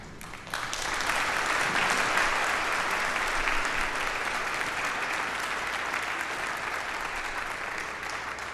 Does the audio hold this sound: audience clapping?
yes